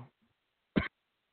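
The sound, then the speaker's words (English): A single sharp cough bursts out in the middle of a quiet pause, brief and loud, with only a faint trailing breath before it. “It seems like every time I talk, I want to cough.”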